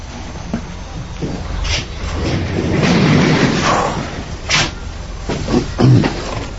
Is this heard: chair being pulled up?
yes